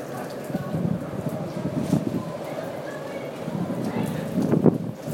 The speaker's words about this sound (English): And that sort of whooshy sound, not just the wind, but if you hear the higher pitch stuff, that is the wind whipping around the comm tower, I think, where all the radar and sensors are and stuff.